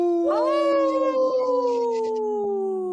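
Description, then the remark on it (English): A person imitates a wolf howl, howling the word "no": one long, sustained wail that rises quickly, then slowly sinks in pitch over about three seconds. Loud, with no other sounds around it. “See how I said no? Yeah. In a howl?”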